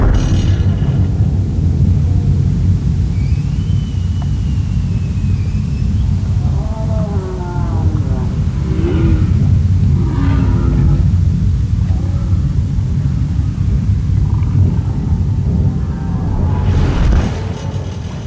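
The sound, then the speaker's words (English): Roaring boat engines heard underwater in Glacier Bay in summer make a loud, steady low rumble with a humming drone throughout, while faint higher whooping and wavering calls rise briefly above the noise. “But still, the humpbacks that are there in the summer have to live alongside roaring boat engines.”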